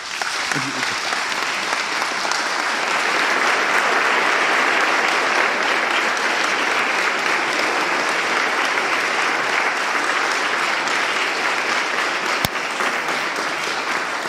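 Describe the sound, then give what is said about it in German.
Sustained audience applause, a dense steady wash of many hands clapping at an even loudness for about fourteen seconds, with no voices rising above it. “Herzlichen Dank und das ist euer Applaus.”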